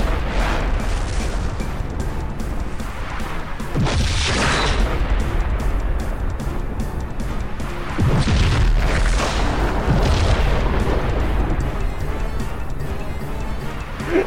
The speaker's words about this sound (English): Kind of like that, where there's just explosion after explosion after explosion in this ravine. The ground is literally shaking.